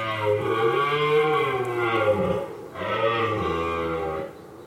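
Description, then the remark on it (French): Two long, deep bellows follow one another, each a loud, drawn-out moaning roar with rich harmonics, separated by a brief pause; no one speaks. It is a red deer stag roaring during the rut to attract females, in the Préalpes d'Azur regional nature park. “Le brame du cerf, on l'entend fin octobre, à peu près.”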